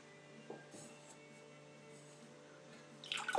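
Water pours briefly into a plastic pudding cup near the end, measuring the first of three cups of water for cooking rice, a rising splashy gush after a few seconds of quiet room hum and faint small clicks.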